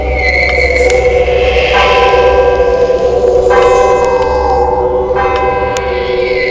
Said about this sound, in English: The final church bell chimed.